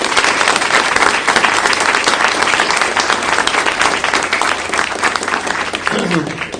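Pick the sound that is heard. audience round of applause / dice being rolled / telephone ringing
audience round of applause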